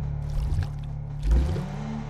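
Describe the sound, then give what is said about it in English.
Water ripples and sloshes in an old town-square fountain over a steady low hum, with a deeper surge swelling midway before settling back into a soft, continuous trickle. No voices. “But as he stared, the water began to ripple.”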